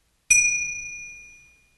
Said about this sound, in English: We will ring the chime to begin and end the meditation.